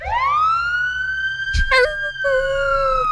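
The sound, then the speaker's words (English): An emergency vehicle siren wails upward and holds a steady, piercing tone for a few seconds, broken midway by a brief noisy burst, fairly loud with low rumbling underneath. “Then run, then wag his tail every time he heard a siren.”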